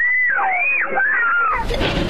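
crowd, children screaming

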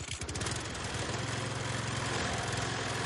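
machine, riding lawnmower engine running

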